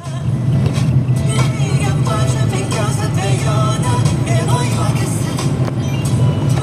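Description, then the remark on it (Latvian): A car radio plays inside a moving vehicle driving in the border area of Demene parish, Augšdaugava municipality, Latvia. Faint broadcast voices and music play over a steady, loud low rumble of engine and road noise throughout. “Interesanti, ko iebraucot te mašīnas radioaparātā var paklausīties.”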